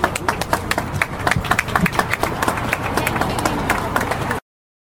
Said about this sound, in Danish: Skal vi give ham en klap til alle?